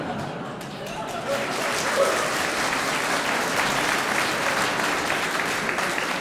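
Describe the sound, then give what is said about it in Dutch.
Sustained audience applause in a concert hall at a choir concert, a dense wash of many hands clapping at steady loudness throughout, with a few faint higher yips or cries mixed into the crowd noise. “Ja, ik dacht net aan het applaus in de zaal iets anders te horen, maar...”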